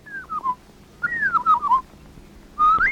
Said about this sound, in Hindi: देख कितना सुंदर चिड़िया ने देख, तिन्हा भी परमेश्वर बनावे छ।